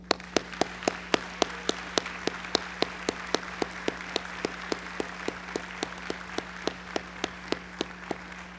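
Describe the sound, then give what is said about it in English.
An audience applauds steadily for a woman being presented with a bouquet, a dense wash of clapping with one sharp, evenly paced clap standing out about three times a second, over a faint low electrical hum. No one speaks. “And it's okay to clap for her.”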